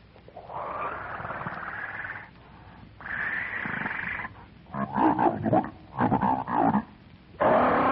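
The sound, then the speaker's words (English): A monstrous red-haired ape jabbers gutturally through thick, slavering lips in a series of loud, rough grunting bursts, with short pauses between the throaty calls and no one else speaking. “Jabbering gutturally through thick, slavering lips, the monstrous ape reaches out a hairy arm and paw and grasps Wolf for the back of the neck.”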